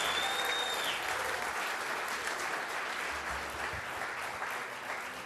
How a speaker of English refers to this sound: How good was that? Can we just give another round of applause to our special guest?